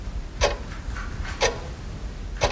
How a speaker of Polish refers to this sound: Zegar. Zegar. Bardzo dobrze, bardzo dobrze.